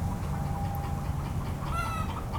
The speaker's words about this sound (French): Voilà, là on l'entend bien, donc là-bas en fait de l'autre côté de l'enclos il y a un coq qui se balade parce que lui il a en aile pleine, donc il vole de tous les enclos parce qu'il y a des poules de partout, mais c'est le coq de la ferme